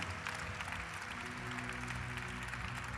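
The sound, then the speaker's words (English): An audience claps their hands in a dense, continuous patter of many overlapping claps, steady and fairly loud, with sustained low musical tones humming beneath and no speech. “Come on, let's clap our hands because every hand represents a soul.”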